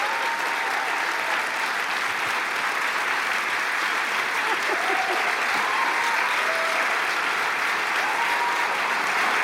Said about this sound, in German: Noch kein Wort gesagt und schon so ein Applaus. Wie kann das sein? Wehe, ihr meint das nicht ernst. Herzlichen Dank für den Empfang.